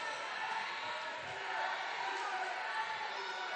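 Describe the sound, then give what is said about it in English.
A steady, dense wash of crowd noise fills a gym during a basketball game between two 26-A teams, picked up on the crowd mic, with many overlapping voices murmuring and shouting at a constant level and no clear individual words. “You can hear it probably on our crowd mic. A lot of activity as these two 26-A teams match up.”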